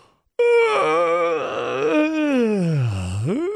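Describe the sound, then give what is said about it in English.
A person vocally imitates a woman's big, drawn-out yawn, a single loud moaning sound that rises, wavers, then sweeps down low before climbing again at the end, lasting about three seconds. “Yeah, and she yawned, like she went.”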